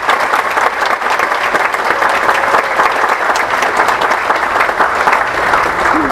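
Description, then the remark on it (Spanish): A crowd claps steadily and loudly for several seconds for the councillors of the Mérida City Council, a dense wash of many hands applauding at once with no pauses or speech. “Un fuerte aplauso a todos los regidores del Ayuntamiento de Mérida.”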